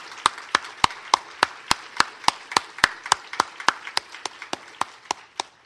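Steady applause from an audience for the members of the current Regional Executive Council, who have served for the past three years. One set of sharp, evenly spaced claps stands out over a softer wash of clapping, lasting several seconds with no talking.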